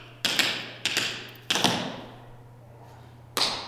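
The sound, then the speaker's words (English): Tap dance steps, brush, shuffle, slap and lift: sharp, bright metallic clicks of tap shoes striking the floor in quick pairs and single hits, each ringing briefly, with short pauses between groups over a low steady hum. “Brush, shuffle, slap, lift.”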